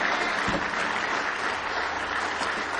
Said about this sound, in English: Give me one more hand clap of praise tonight. He's good all the time.